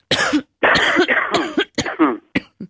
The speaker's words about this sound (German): Komm, wir husten beide mal bei drei. Eins, zwei, drei.